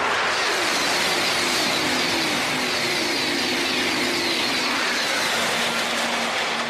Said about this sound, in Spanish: Algo poco conocido es que el llamado tren bala debe su forma a un pequeño pájaro. Los primeros diseños de este tren de alta velocidad, que llega a superar los 500 kilómetros por hora en tramos experimentales, provocaban una onda sónica